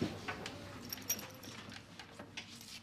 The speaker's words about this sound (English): And that's Quigley asking for pets like any other dog in a setting where he is surrounded by people and he loves the attention.